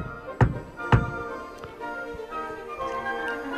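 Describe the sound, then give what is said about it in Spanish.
Two firm knocks on a wooden door, spaced about half a second apart, distinct over a soft sustained musical background. “El lobo presto se dirigió a la de paja y llamó a la puerta.”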